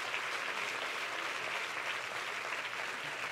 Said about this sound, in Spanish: Sí, ese es el aplauso para tu papá.